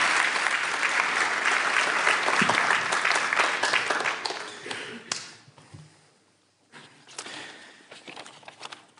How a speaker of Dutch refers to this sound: Dankjewel. Mag ik een applaus voor deze kinderen?